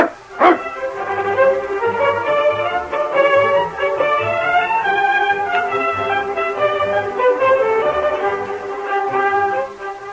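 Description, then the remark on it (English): A dog barks and yips eagerly in a steady excited run of bright, tonal barks with little pause, lasting the whole stretch with no talking. “I got a nice piece of caribou steak for that dog of yours, Sergeant. He can eat the same time we do.”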